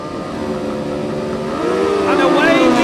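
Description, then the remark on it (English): Several racing motorcycle engines rev loudly and steadily together at the start of a senior race, their whining pitch climbing sharply near the end as the bikes pull away from the start. “Senior race, engage gear. Watch the lights. The revs rise.”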